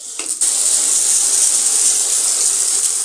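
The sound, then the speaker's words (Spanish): Shower water sprays in a steady, bright hiss that starts abruptly after a brief moment and runs unbroken to the end, with no voices. “Ana se ducha.”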